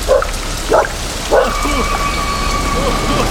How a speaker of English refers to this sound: I did not speak this storm into existence.